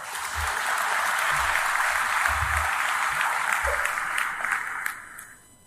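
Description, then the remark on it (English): Graduates at a graduation ceremony give themselves a round of applause, a dense, sustained wash of clapping with a few low thumps, holding strong for about five seconds before quickly tapering off. “Can I ask you to give yourself a round of applause?”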